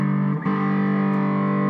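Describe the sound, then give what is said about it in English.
A fizzy fuzz tone combined with overdrive from a guitar pedal, loud and sustained, with a brief dip as a new note or chord is struck, then a steady buzzing, harmonically rich drone. “Combine that sound, so that you want that fizzy sound, with the overdrive.”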